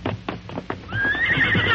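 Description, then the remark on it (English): Several quick, hollow hoofbeats clop as the horses are fetched to follow the outlaws' trail, then a horse lets out a loud, high, wavering whinny that carries to the end. “All right, let's get the horses and follow the trail of those outlaws, Tonto.”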